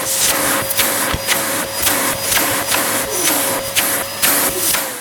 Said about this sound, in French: Le papa de Théo sort son géant aspirateur et aspire la tempête.